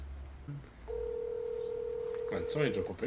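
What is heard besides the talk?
telephone ringing tone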